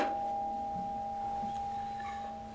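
A bell's struck tone lingers as a steady, clear hum that fades only slightly over a few seconds. It rings alone, with no voices, against a faint background hiss.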